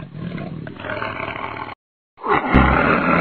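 Four tiger cubs in a forest roar in two bursts split by a short silence, the first sustained and rasping, the second rising louder and rougher, with no talking.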